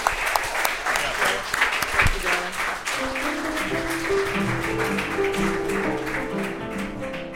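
Sustained applause from an audience fills the room, dense steady clapping with scattered crowd noise, while faint tonal music or chatter rises underneath in the later seconds.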